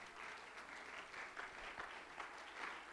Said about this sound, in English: Does anybody believe that? Can you clap your hands and can you give God praise right now?